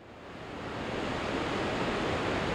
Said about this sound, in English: A waterfall at the confluence of Brazil, Argentina, and Paraguay. Millions of tons of water emerge from a dark green jungle and roar over hundreds of rock ledges that stretch for more than a mile across the river. This is Iguazu Falls,